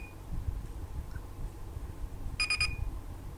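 A small electronic device with a temperature display gives three rapid, high-pitched beeps in quick succession as its volume button is pressed, ending in a brief held tone, over a steady low background hum. No one speaks.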